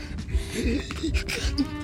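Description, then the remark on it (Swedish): Labored, gasping breaths of a man whose asthma is getting worse repeat in quick, uneven pulls, strained, with a faint hum of background noise underneath and no words spoken. “Det var som hans astma blev värre.”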